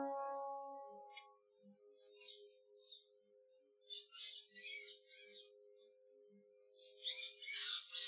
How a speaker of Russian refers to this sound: Птичка, почему ты так кричишь? Что-нибудь случилось с птенцами? Да не щебечи ты так, я ничего не могу понять.